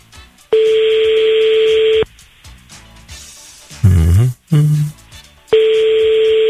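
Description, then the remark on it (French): A telephone ring tone sounds through a line, two long buzzing rings about three seconds apart, with a brief muffled burst of sound between them, as a radio host calls a listener in Saint-Pierre, on avenue du Général de Gaulle, for a phone-in game. “Le temps pour moi de composer le numéro de téléphone.”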